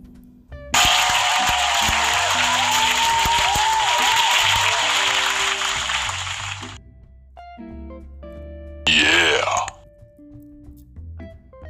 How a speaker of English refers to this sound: Again, round of applause for you guys always in attendance with me.